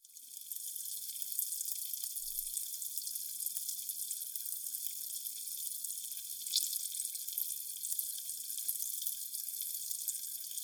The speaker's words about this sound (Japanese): そうだ、耳元でも炭酸泡の音聞きたいかにゃ。泡を手ですくって